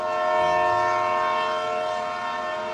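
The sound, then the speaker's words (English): A train horn blares in one long, steady chord, loud, with the low rumble of a railway train beneath it and no voices. This is at a train platform in Washington, D.C., where President Lincoln stands. “2 hours later, the president stands on a train platform in Washington, D.C., trying to look casual.”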